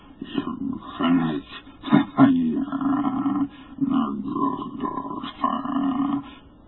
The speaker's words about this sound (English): And because imagination might suggest a conjectural source in the world of non-visible beings, the huddled crowd at the mountain's base huddled still closer and winced as if in expectation of a blow. Rang the hideous croaking out of space.